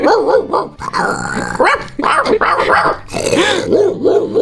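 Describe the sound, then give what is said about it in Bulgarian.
A person imitates dog barks, switching between deep, gruff woofs like a big dog and higher, yappy little barks like a small dog in quick succession, loud, with growly textures between them. “Вместо това, ще науча различни видове лай на куче.”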